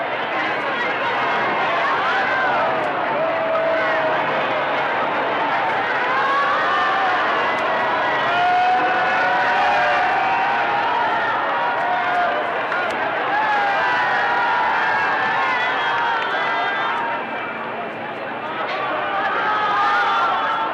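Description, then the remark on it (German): A large crowd lining a convoy route at the corner of Yorkstraße cheers and shouts continuously, a dense roar of many voices with rising and falling whoops, steady and loud throughout with no single speaker standing out. “Und hören Sie nun hier bloß diesen Jubel an.”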